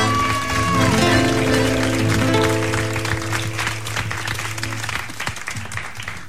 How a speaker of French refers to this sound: On peut applaudir bien fort.